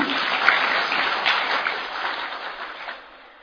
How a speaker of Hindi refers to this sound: अब अपने लिए ताली बजाओ।